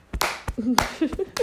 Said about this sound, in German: Ich habe keinen Kater. Das ist, da können wir schon mal klatschen. Ja.